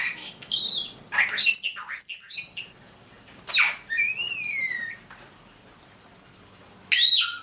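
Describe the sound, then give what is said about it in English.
A pet female starling chatters in several bursts of squeaky whistles, rising and falling slurred notes, and scratchy clicks, with some phrases mimicking human speech her family said to her, separated by brief pauses. “Well, because she's a social being, but she's also, as you write, starlings are, you know, one of the few birds that is a mimic.”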